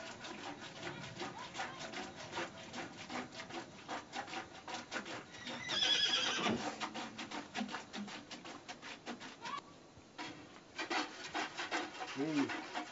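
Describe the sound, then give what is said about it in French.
A mare with one hind leg hobbled is milked by hand into a bucket, the milker's hand passed behind the hind leg: quick, rhythmic squirting strokes repeat steadily, with a brief louder burst of animal noise partway through and no talking. “Il lui entrave un postérieur avant de la traire.”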